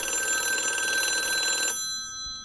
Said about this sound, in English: Essentially, the telephone ring, as it came into being in the 20s and 30s, stayed almost entirely unchanged until approximately the 80s, late 70s, 80s.